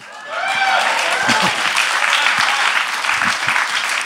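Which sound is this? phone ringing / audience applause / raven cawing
audience applause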